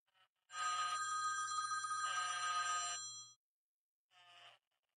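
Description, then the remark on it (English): An iPhone rings with a bright, buzzy electronic tone held for about three seconds, shifting pitch partway through, then a short second burst follows after a brief pause. No one speaks. “The phone rings and the ants form what,”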